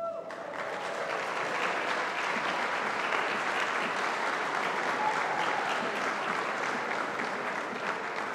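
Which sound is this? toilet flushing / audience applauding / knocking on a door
audience applauding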